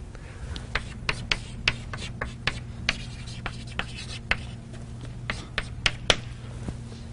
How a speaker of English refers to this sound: So I'll write it down. So the day starts at 0. Twenty-five hours later, the clock reads 1.